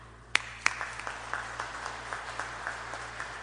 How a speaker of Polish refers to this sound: Często, gdy ktoś coś wygra albo zwycięży, to ludzie klaszczą, żeby mu podziękować albo powiedzieć brawo, gratulacje. To spróbujmy zaklaskać, to się nam przyda później jeszcze do powtarzania.